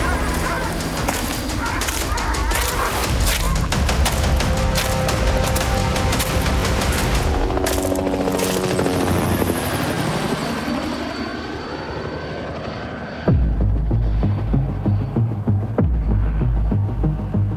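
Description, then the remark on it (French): A helicopter, deployed in a large search for an armed man who fled into a forest, passes overhead, its loud rotor thump and engine roar sweeping down in pitch as it flies by, then a heavy low rumble continues. Dogs may bark faintly in the background. “On a également des hélicoptères.”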